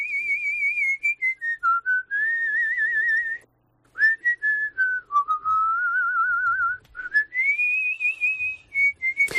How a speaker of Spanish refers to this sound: Te pregunto, ¿sabes silbar? Y si sabes, ¿silbas entonando canciones?